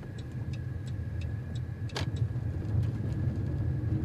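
A car rolls steadily over a dirt road, a constant low engine and tire rumble with faint gravel ticks and a brief crackle midway, no talking.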